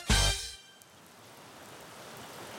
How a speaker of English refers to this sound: We're outside the Vindicator headquarters in the rain, waiting for our ride.